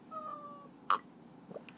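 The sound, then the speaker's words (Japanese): A cat gives a faint, drawn-out meow, followed by a short sharp knock and a few soft rustles. “であとにゃんこがいるので、猫に見られながらやるかなって感じなんですけど”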